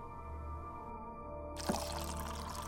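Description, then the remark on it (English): Water pours steadily into a basin for guests to wash their feet, a continuous splashing flow that brightens partway through with a louder rush and a small knock, without any voices. “Here is water for all of you to wash your feet.”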